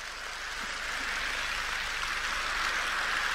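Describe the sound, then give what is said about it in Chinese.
An audience applauds a speaker in a dense, steady wash of clapping that holds at an even, moderately loud level for a few seconds, with no voices heard. “很开心啊，我听到你们的掌声很开心”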